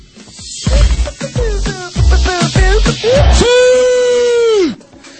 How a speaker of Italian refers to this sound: Eccolo il nostro Cristiano Ronaldo, che continua a gridare come un ossesso, lo vedremo fra un attimo.